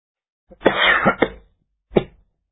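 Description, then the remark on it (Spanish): A moderately loud fit of coughing: two or three harsh coughs run together, then a brief pause and one more single cough. No one speaks. “Me invade la tos cuando tengo esa angustia que me cuesta a veces sacar adelante.”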